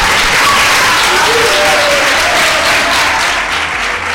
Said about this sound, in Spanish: ¡Un fuerte aplauso